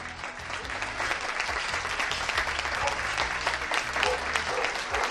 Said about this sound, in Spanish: No cesan los aplausos en la ciudad de la Alhambra. Este es el sonido.